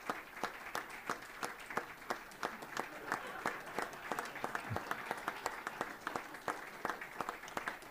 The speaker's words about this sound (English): There's a smattering of applause as he makes his way up, and he'll probably begin in just a moment.